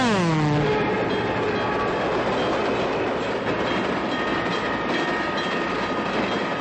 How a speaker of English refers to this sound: She watches the train pass.